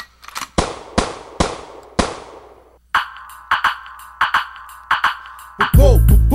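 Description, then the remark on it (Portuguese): A burst of gunshots: about five sharp, loud bangs with echoing tails, then a quicker run of lighter, ringing shots before a loud musical sound cuts in at the end. “Vai, vai, você vai levar tiro”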